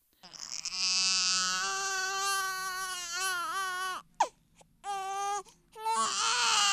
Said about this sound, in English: There's nothing like the scent, the feel, and even the sound of a newborn baby.